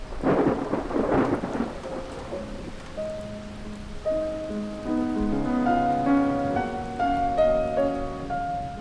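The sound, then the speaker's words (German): A thunderstorm: a loud rumble of thunder over steady rain opens the scene, then sustained musical tones swell and play over the continuing storm noise. “So töft he ob den Sturm.”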